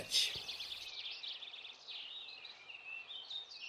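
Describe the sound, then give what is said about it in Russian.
A goldcrest (kinglet) sings continuously in a forest on a summer day in quick, high warbling trills and chirps, steady and moderately soft throughout, with a faint brief noise at the very start and no talking. “Услыхал медведь прекрасное пение какой-то птицы и говорит: «Братец волк, что это за птица, которая так прекрасно поет?»”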